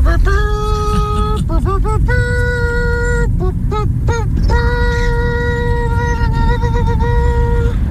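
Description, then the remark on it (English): A foghorn blares in long, steady, reedy blasts rich in overtones, broken mid-way by a few short wavering honks, all over a constant low rumble. “Let's get back to the foghorns.”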